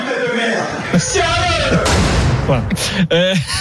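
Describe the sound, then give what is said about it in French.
A door is slammed violently by Guy Lacombe after a training session, with a sharp, loud bang cutting through a man's angry, raised shouting that continues around it. “Il a vraiment défoncé la porte.”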